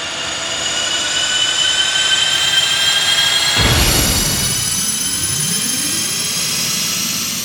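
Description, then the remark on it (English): The Blackbird jet's engines roar with a steady, high-pitched turbine whine, then surge into a loud whooshing rush midway as it powers up and takes off. No one speaks. “The Blackbird powers up and again takes to the sky, leaving the huge combined force behind to do battle as the two set course for Washington, D.C.”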